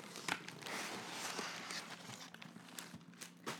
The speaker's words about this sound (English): Taking the tissue paper off the box.